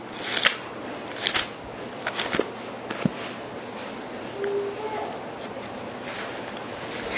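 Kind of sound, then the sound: household object, bible pages being turned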